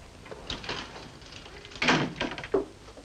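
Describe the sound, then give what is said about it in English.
A woman army captain swings an army battery office door and pushes it shut with a muffled thud. A few soft knocks and rattles follow, then a brief sharper click at the end. “She shuts the door and approaches a desk.”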